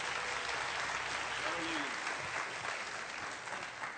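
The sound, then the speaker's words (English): A crowd applauds a man steadily, a dense wash of clapping hands that holds at an even loudness throughout, with a faint voice briefly audible beneath it. “would you give him a hand clap?”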